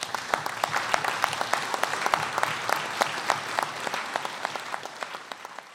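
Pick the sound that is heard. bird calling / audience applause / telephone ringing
audience applause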